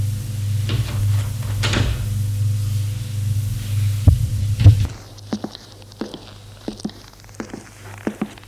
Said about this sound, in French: La porte s'est ouverte.